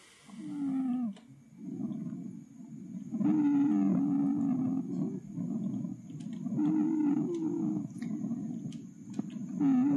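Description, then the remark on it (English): Pulmonary wheezing lung sounds from narrowed small airways: loud, whistling and moaning tones that rise and fall with each breath, repeating steadily over several cycles with no talking. “Sounds like lungs of a patient with asthma or otherwise narrowed small airways.”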